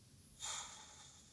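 A single short, breathy deep exhale during a breathing exercise rushes out in a soft burst of air, then fades into quiet background hiss. No one speaks.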